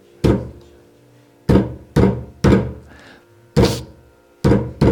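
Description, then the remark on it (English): Heavy wooden thuds as dancers bang sticks in rhythm on the floor, about seven hits in five seconds, each sharp and resonant with a short ringing decay, loud with no voices. “It gets really wild, but the sakis begin to take their sticks and bang the sticks in rhythm on the floor.”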